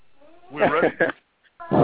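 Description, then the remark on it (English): A caller on the phone imitates a monkey call, letting out a few loud, strained vocal bursts, a brief pause, then one final rising whoop. “Is that a monkey? I don't know what it was.”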